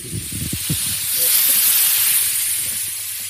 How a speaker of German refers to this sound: Also jetzt, die Luft geht jetzt wieder rein in die Unterdruckkammer sozusagen. Ja. Plopp.